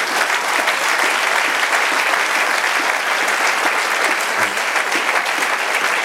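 An audience at a church service applauds God's name steadily, a dense, continuous wash of many hands clapping at an even loudness for several seconds, with no voices standing out.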